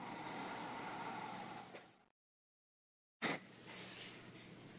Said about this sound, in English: Close off the left and breathe out the right. And then at the end of the exhale, a little push.